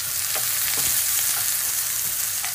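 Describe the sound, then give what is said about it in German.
Meat sizzles steadily in a hot pan, a dense crackling hiss with scattered pops, fairly loud throughout, with no voices. “Und das Fleisch brutzelt derweil weiter.”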